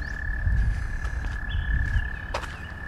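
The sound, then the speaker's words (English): A chorus of frogs sings steadily, one high continuous trilling note running throughout over a low rumbling background, with occasional brief chirps cutting in. No voices are heard. “Of course, these frogs singing.”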